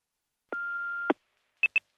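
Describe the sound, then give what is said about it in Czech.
An answering machine tone: one steady electronic beep lasting about half a second with a click at each end, then two quick, higher-pitched bleeps. Clear, with no voices. “Na svém telefonním záznamníku máte tuto zprávu.”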